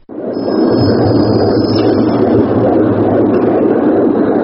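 A recording of dozens of human heartbeats, played at Christian Boltanski's exhibition at the Grand Palais in Paris during the annual Monumenta show, layered together into a dense, loud, steady rumbling hum, low and thick, with a faint high whine above and no individual beats standing out.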